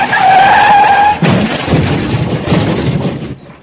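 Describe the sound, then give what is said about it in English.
A loud, high-pitched bicycle skid squeals for about a second after its front brake fails to stop it, then cuts into a sudden crash as the bicycle hits the side of a lorry, followed by a few seconds of rattling, clattering debris that gradually fades. No voices are heard. “She saw the look of horror on the lorry driver's face just before she crashed into the side of his lorry.”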